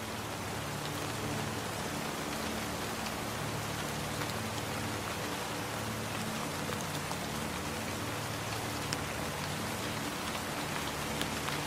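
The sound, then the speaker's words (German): Steady rain falls continuously, a dense, even hiss of drops pattering on surfaces with no pauses or voices, fairly soft throughout. “Die Regenversammlung endet nie laut.”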